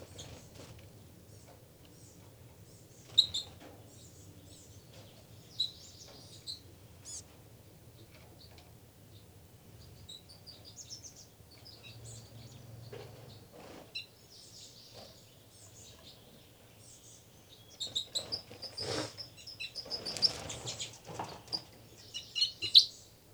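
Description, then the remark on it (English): Birds squabbling: scattered high chirps and squeaky calls over a low steady hum, then a louder, busier flurry of overlapping sharp calls near the end. No one speaks. “Another fight between the birds.”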